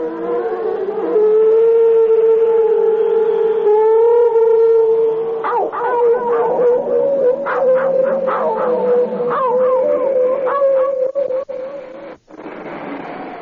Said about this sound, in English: when they sit out there at night and the moon is glancing off their wings and they're quiet and I can hear the dogs baying, I just don't know what to think.